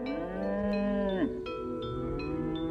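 A cow moos with a long, low, drawn-out call that bends downward at the end, followed by a steady lowing tone, fairly loud with no voices present.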